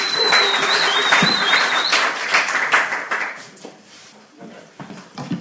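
An audience breaks into applause, a dense burst of many hands clapping at once that stays loud for a few seconds and then thins out into scattered claps.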